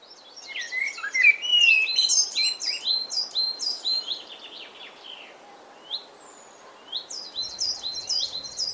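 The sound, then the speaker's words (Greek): A blackbird sings bright, rapid runs of whistled and chirping notes in repeated phrases, pausing briefly before resuming with another burst of high, lively song. No voices are heard. “Όμως το μαυροπούλι τραγουδάει τόσο δυνατά που καλύπτει όλους τους άλλους ήχους.”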